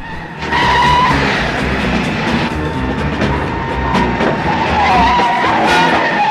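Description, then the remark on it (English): Loud, sustained tire squeal as two cars, a looters' car and a police car chasing it, skid hard around a corner at high speed on empty city streets, engines roaring underneath, the screeching pitch wavering and lasting several seconds without a break. “The two cars squeal around a corner at high speed on the empty city streets.”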